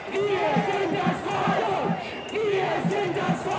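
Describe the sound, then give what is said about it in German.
A crowd at a demonstration against the Corona policy shouts slogans in unison toward the Bundestag at midday, many voices roaring together in loud rhythmic chants that swell and briefly dip before rising again, with a constant wash of overlapping yells. “So brüllen sie es am Mittag in Richtung Bundestag, wo die Parlamentarier gerade über das Infektionsschutzgesetz debattieren.”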